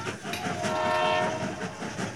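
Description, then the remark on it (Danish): A train coughs and sputters steadily along through the Danish countryside, its rattling, clattering noise filling the scene, with a sustained whistle-like tone rising briefly over the chugging. “Toget det hoster og sprutter.”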